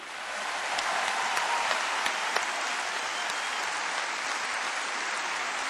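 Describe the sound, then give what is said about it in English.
Sustained applause from an audience for the musician Vincent Perani, a dense steady clatter of many hands clapping at even loudness for several seconds, with no voices over it. “Et veuillez encore applaudir le musicien Vincent Perani.”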